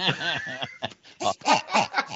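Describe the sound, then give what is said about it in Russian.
A pig toy, squeezed sharply with two hands, grunts and squeals in a run of short, wheezy bursts: first a longer squeal, then four or five quick squeaks in a rough rhythm, fairly loud. “Ну, можно нежно хрюкать, можно ее резко сдавить двумя руками, она визжит”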